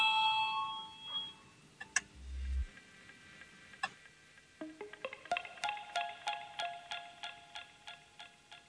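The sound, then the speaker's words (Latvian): A parliamentary voting bell rings in a quick, even series of bright metallic strikes, with a few scattered dings first, heard clearly with no talking; it calls the vote on proposal 83 by Finance Minister Jānis Reirs. “Lūdzu, zvanu, balsosim par 83. finanšu ministra Reira priekšlikumu.”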